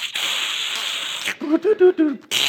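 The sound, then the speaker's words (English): A voice imitates a dial-up modem connecting: a long, steady static-like hiss, then a quick run of warbling, pitched beeps and squeals, and a short burst of hiss again. “I was watching a show the other night, and they were talking about their dial-up modem.”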